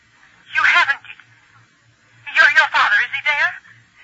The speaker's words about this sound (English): The phone rang.